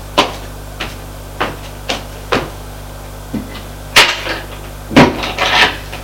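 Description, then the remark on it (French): A door being closed: a run of short, sharp wooden clicks and knocks, then two louder bangs with brief rattling tails. No one speaks. “Puis, va fermer la porte.”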